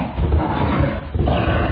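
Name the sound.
dog barking loudly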